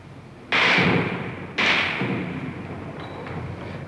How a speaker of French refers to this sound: Il tire à la mitrailleuse, vous entendez les balles qui claquent contre le mur.